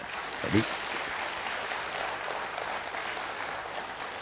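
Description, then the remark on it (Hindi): An audience at a talk, asked to demonstrate a clap in the 'Brahma Kumari' style, clapping together in a steady, dense patter that holds evenly for several seconds, with one sharper, louder clap standing out near the start. “तो आगे से आप ये वाली तालियां बजाएंगे, राइट?”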